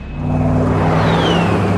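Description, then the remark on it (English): An RV engine rumbles steadily as it drives out of town into the country, under a loud, broad roar, while a high whine sweeps downward overhead as fighter jets pass, with no voices. “Fighters fly overhead as the RV heads out of town into the country.”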